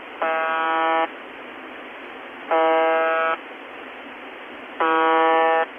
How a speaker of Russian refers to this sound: Эта радиостанция издает такой однотонный базз, да, как говорят англичане, гудение, поэтому ее называют «the buzzer».